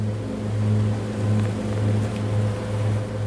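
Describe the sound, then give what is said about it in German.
A divers' motorboat, loaded with oxygen tanks, wetsuits and snorkels, drones steadily with a low, rumbling engine hum as it moves across the water to the next station, continuous, with faint splashing and wind noise and no voices. “Die Taucher verstauen Sauerstoffflaschen, Neoprenanzüge und Schnorchel in ihrem Boot. Weiter geht es zur nächsten Station.”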